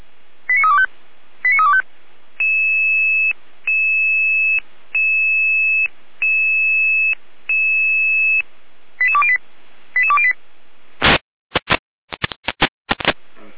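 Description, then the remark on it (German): Fire brigade radio alerting tones from the Jena dispatch station: quick chirping tone bursts, then five evenly spaced steady beeps, more chirps, and finally a series of loud, harsh data bursts, with no voices. “Beistelle Jena mit Alarmierung.”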